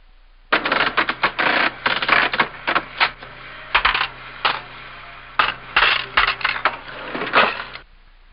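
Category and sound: machine, cash register ringing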